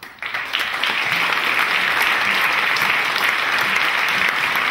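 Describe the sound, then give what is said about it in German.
Steady, dense applause from a crowd for a graduate of the 2020 graduating class, a continuous wash of many hands clapping at an even loudness from start to finish, with no voices standing out. “Einen großen Applaus.”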